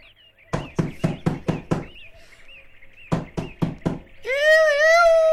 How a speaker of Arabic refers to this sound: وبعد دقائق سمع الأصدقاء طرقا على الباب.